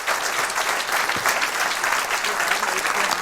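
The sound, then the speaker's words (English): An audience claps steadily, a dense, even patter of many hands sustained throughout, with no pauses or voices standing out. “A round of applause.”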